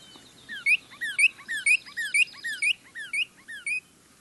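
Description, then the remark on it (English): A female northern cardinal sings alone in a steady, rhythmic series of about eight bright, high, slurred chirping phrases, each quickly repeated, clear over a quiet background. “But if you listen carefully, if you watch, you may actually see and hear a female singing.”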